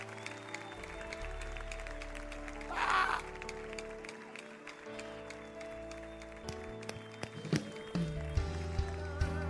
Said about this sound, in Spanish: Dele un aplauso bien fuerte.